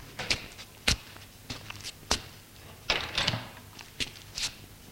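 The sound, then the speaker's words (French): A series of footsteps crosses a room at a steady, unhurried pace as a man goes to answer a knock, followed by clattering handling sounds like a door being opened, moderately loud with no talking. “L'on frappe à la porte. Il sort de sa rêverie et va ouvrir.”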